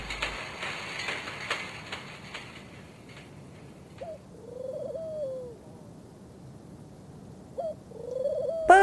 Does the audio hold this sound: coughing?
no